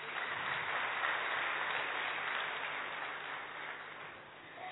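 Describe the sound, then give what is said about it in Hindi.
An audience claps steadily for several seconds in honour of a person praised for receiving a blessing of divine intellect, a dense, continuous patter of many hands that holds strong before easing slightly toward the end, with no voices over it. “इस पे तो ताली बजनी चाहिए।”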